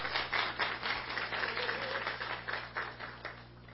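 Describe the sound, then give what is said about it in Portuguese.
An audience applauds with steady, dense clapping that swells and dips slightly over a few seconds, with a low hum underneath and no clear talking, at an award ceremony in a city council chamber in Brazil. “Pode aplaudir aí, pessoal, de vocês.”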